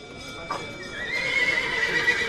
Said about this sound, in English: The start of sales at Argentina's biggest cattle auction, the Mercado de Liniers. A scrum of buyers bids on some of the 10,000 animals in the stalls and stalks the yammering auctioneer.